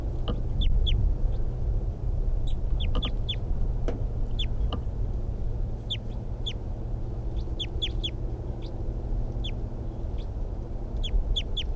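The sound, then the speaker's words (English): A wild bird calls and decoy birds answer: short, high chirps come in quick clusters of two or three throughout, over a steady low background rumble. “Wild bird. Decoys respond.”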